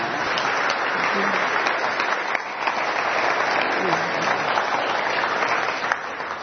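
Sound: audience applause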